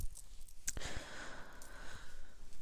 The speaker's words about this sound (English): So yeah, sorry about the heavy breathing. I keep doing it, and I kind of have to right now.